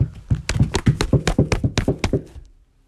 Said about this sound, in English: She kicked and pounded on the door.